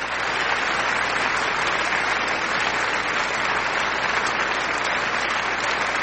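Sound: played applause sound effect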